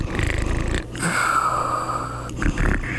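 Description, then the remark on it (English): A voice imitates a little boy snoring: a rattling, snorting inhale, then a long whistling exhale that slides downward, followed by another short snort, fairly loud with no talking. “She listened. She heard the little boy snoring.”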